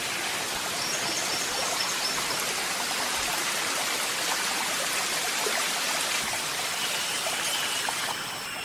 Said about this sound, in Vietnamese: Gần bên có con suối chảy róc rách